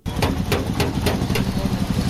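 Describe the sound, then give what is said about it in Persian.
Steady metallic hammer blows from a 14-year-old boy repairing a car in a local repair workshop in Bamiyan city, Afghanistan, striking about four times a second, then fading, while a low engine-like rumble hums continuously underneath. “صدای چکش های پسر 14 ساله است که موتر را در ترمیمگاه محلی در شهر بامیان مرمت می کند.”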